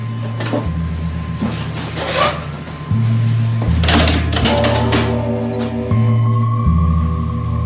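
typewriter typing

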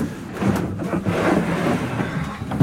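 door being closed

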